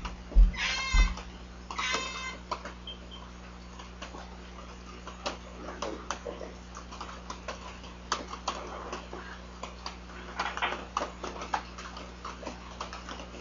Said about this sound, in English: Okay. The cat fight. Yep. Yep. Is that a cat right here? Yep. Sadly.